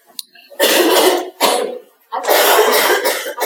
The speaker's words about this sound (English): Coughing. We're going to have a coughing amnesty. None of us have to apologise for coughing tonight. Is that okay? Because I'm going to cough.